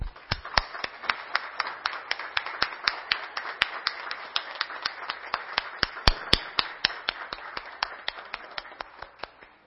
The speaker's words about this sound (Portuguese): Peço que todos em pé saudamos com uma salva de palmas.